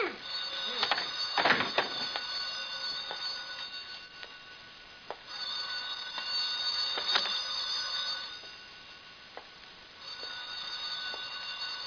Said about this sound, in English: Listen, will you? Listen. My phone's ringing. Look, you... Let me answer the phone.